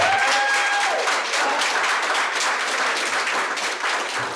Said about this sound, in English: And based on the applause in the video as she walked away from the lectern, she wasn't alone.